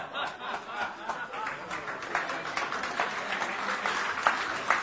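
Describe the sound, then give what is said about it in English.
An audience applauds a joke, many hands clapping in a dense, continuous patter that holds at an even, moderate loudness for several seconds, with no one speaking. “I get applause for that.”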